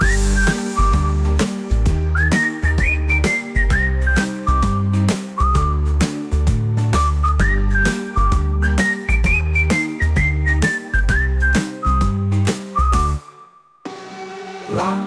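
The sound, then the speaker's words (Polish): A bright, tuneful whistle carries a rising and falling melody, birdsong-like, over steady rhythmic musical backing, loud and continuous before cutting off near the end. “Żadne zwierząt nie powie, ale usłyszysz to w ptasiej pieśni, taki śpiewający gwizd.”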